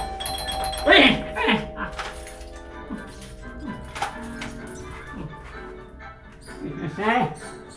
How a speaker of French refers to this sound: Une nouvelle fois, le carillon retentit.